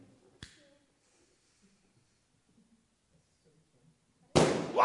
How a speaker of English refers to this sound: So it's a perfectly normal balloon. Right, what is this? What is going to happen? What is going to happen when this balloon and this lighter come into contact? It's going to pop. It's going to pop.